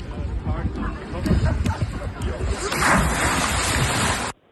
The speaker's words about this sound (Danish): Ja, men det må jo så være hovedspring. Det er rigtigt.